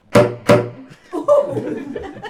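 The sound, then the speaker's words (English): A saxophonist demonstrates the slap tongue technique: two loud, sharp saxophone slap-tongue pops, each a percussive smack with a short pitched tone underneath, evenly spaced, then a person starts talking. “And it's called Slap Tongue.”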